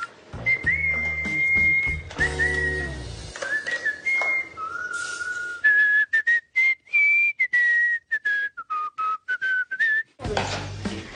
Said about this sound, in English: Was that you whistling? That was me. Was I whistling? Yes. What were you whistling about? I whistle when I'm happy, so I must be in a good mood.